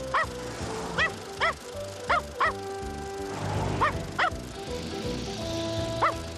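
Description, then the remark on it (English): A dog, Odie, barks in quick, high-pitched yips, about ten in irregular bursts, while chasing a car, over a steady rumbling background. No one speaks. “Well, Odie likes to chase cars.”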